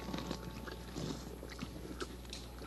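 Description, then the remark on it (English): A horse chewing food, with steady crunchy, grinding bites repeating in an irregular rhythm over a low background hum, no voices. “Can you chew the way a horse would chew?”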